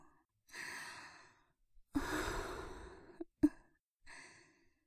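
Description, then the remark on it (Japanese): Three soft, sweet, breathy sighs let out at the listener's ear, drawn out one after another, the middle one longest and fullest, with a couple of faint mouth clicks between them and no talking. “耳元で甘く吐息を漏らしても、体が動かないでしょ。”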